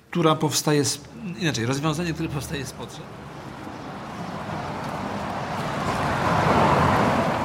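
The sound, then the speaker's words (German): A voice speaks briefly at first, then fades out beneath a steady roar of street traffic outside a hospital, by a zebra crossing where no car stops for a waiting pensioner; it swells gradually as a car seems to pass, with a breezy rush of wind. “Draußen vor dem Krankenhaus wartet wieder eine Rentnerin am Zebrastreifen. Wieder hält kein Auto an.”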